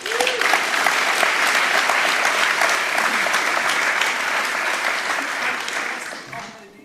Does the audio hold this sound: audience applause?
yes